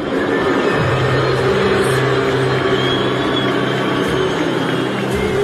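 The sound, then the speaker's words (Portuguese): A World Cup final stadium crowd boos US President Donald Trump loudly and steadily, a dense, sustained roar of many low, droning voices that holds at the same level for several seconds without a break. “Esta foi a vaia reservada ao presidente dos Estados Unidos, Donald Trump, que ao longo de todo o jogo, de todo o evento, foi protegido pela organização”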